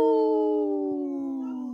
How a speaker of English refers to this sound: We heard Wendy in the background there howling.